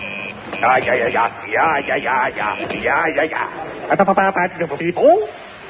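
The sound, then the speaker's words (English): A voice imitates Morse code beeps being sent to Von Heidelberger: a run of warbling, chirpy vocal bleeps followed by a burst of quick, evenly spaced pips, loud with nothing else behind it. “Quick, I'll get Von Heidelberger on the Morse code.”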